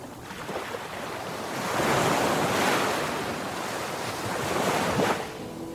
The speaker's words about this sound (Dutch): Je hoort de golven stuk slaan op een eenzaam strand. Een Nederlands strand. Of, nou ja, een strand wat zo'n 70 miljoen jaar later een stukje van Nederland zou worden.